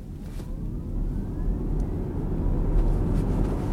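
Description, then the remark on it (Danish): A car in its Green drive setting accelerates quietly: a steady low rumble grows slightly louder while a faint whine slowly rises in pitch over a few seconds. No one speaks. “Det var en blød og blid lyd, og så skal vi accelerere.”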